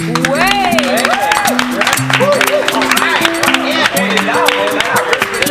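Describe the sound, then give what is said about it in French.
A lively studio audience on a show's set applauds steadily and loudly to welcome a duo of guests, dense clapping filling the whole stretch while voices cheer and call out over it. “Je crois que j'ai jamais eu un plateau avec autant d'applaudissements.”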